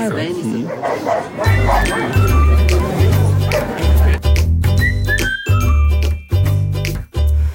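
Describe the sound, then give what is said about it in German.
Two dogs fighting bark and yip at each other in a rapid, agitated scuffle, loud, with faint jingling and people's voices in the background. “Guck mal, irgendwo streiten sich 2 Hunde.”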